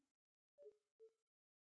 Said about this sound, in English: Huddled in the darkness, listening to the beep of his alarm and the hiss of the escaping air, the pressure diminishing rapidly, his ears popped as if he were in an airplane taking off.